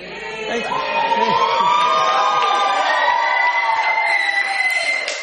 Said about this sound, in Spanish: Este programa se hace con público presente y la mucha gente que grita los viernes. Hoy no sabemos. ¿Quieren gritar un poco? A ver.